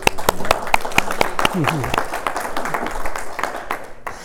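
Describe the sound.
A small group claps in a steady patter of sharp, close handclaps that lasts several seconds. Voices murmur faintly underneath and briefly rise during the applause.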